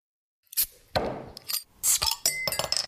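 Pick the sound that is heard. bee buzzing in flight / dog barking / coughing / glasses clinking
glasses clinking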